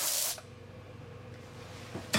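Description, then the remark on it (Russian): An aerosol air freshener sprays a short, sharp hiss in a toilet, then after a quiet pause of low hum a second quick burst begins just as the sound cuts off. “Как мне не хватало дверей и освежителей.”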